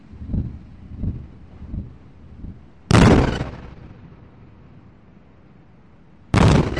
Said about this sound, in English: Well, it's dawn now in Gaza, just after 6 o'clock local time, and that was two massive blasts sounding like Israeli airstrikes pretty close to where we are now.